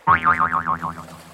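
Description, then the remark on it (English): A cartoon boing marks a goat slamming into a tree: one loud, springy twang wobbling up and down several times before fading out after about a second, with no voices. “The goat hits a tree.”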